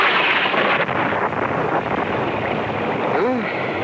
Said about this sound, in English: Listen to that thunder. Bad storm.